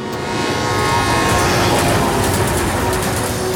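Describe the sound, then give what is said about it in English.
A train running across North America shipping goods rolls steadily along the rails, a loud, continuous rumble with thin metallic squealing tones running through it, without any voices. “This train runs through our lives.”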